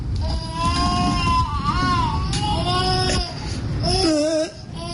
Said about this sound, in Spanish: déjame poner un efecto de un... Nah, ese nuevo bebé llorando.